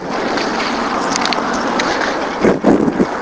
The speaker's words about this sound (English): A car like a motorboat needing a tune-up.